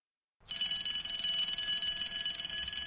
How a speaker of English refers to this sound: When the bell sounded for the start of lessons, the children got out their pens, exercise books and calculators.